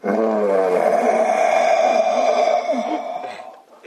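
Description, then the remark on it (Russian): A single loud, drawn-out roar lasting several seconds, steady, fading slightly at the end; it sounds like a human voice imitating a beast's roar. “И вдруг раздался рев.”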